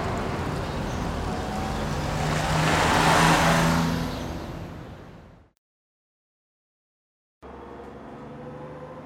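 A bus engine roars and swells louder, then fades away into silence; after a short pause a steady, lower engine drone starts up again. No one speaks.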